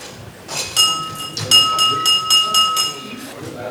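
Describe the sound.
A small meeting bell is rung in a quick, slightly uneven series of about eight strikes as an open meeting with party votes ends, its bright, high ringing tone lingering between hits over a faint murmur of voices.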